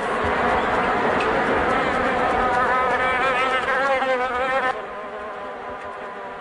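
A loud insect buzz drones steadily for several seconds, its pitch wavering as a fly or mosquito hovers, then drops abruptly to a softer hum.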